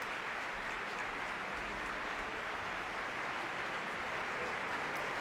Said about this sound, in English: He's asking the orchestra to rise and share in the applause